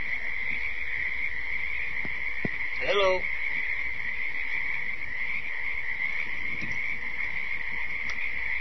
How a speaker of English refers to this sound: These crickets won't stop, man.